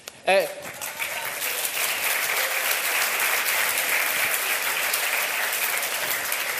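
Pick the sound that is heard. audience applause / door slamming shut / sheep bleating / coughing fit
audience applause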